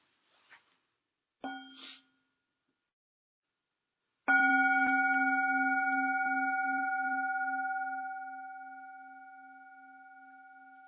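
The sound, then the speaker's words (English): A bell is struck once loudly and left to ring, its steady layered tone slowly fading over several seconds, after a couple of softer taps. No one speaks. “I'll have a bell.”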